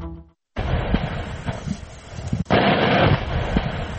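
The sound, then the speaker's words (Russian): A blast at the Baksan limestone quarry goes off suddenly after a brief quiet moment, followed by a loud, sustained rolling rumble, with a second heavy surge of booming noise partway through. “Кроме того, очевидцы в соцсетях публикуют видеозаписи со взрывами. И вот, например, один из фрагментов.”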